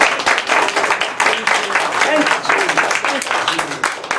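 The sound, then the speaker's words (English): A crowd claps steadily and enthusiastically for several seconds as a hand clap of praise to the Lord Jesus, dense overlapping handclaps with scattered voices calling out beneath the applause. “Can we give him a hand clap of praise?”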